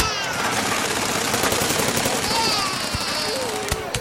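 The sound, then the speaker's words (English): A dense, roaring barrage of explosions with repeated sharp blasts and crackling bursts over a constant loud rumble, chaotic throughout, with a few brief whistling tones cutting through. “Explosion?”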